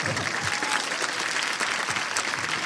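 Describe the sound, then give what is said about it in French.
A live audience at a live show in Paris claps warmly for a returning guest, a steady, dense wash of many hands spread evenly for the whole stretch at a fairly loud, unchanging level, with no voices standing out. “Eh oui, donc déjà, je pense qu'on peut l'applaudir chaleureusement pour ça.”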